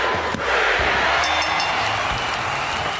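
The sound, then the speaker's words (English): A large wrestling crowd roars and cheers wildly as Bearcat Wright holds aloft the world heavyweight title he has just won from Killer Kowalski in a two-out-of-three-falls match, a steady, dense wall of noise at full volume for the whole moment, with a few low thumps beneath it. “As the crowd went wild, Bearcat held his newly won gold aloft.”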